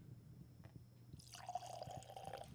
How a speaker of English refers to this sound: Anyway, so we got Baker's 7 single barrel, 107 proof. This is a shout out to the people who love the whiskey pour sounds.